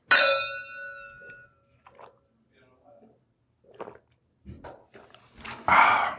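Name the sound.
wine glasses clinking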